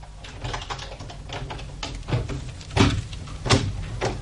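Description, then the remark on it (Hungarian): A run of small metallic clicks and rattles, like a key working in a lock, ending in a few louder knocks and thuds as a door is opened. No one speaks. “Fordítsátok meg a kulcsot a zárban, és az ajtó kinyílik.”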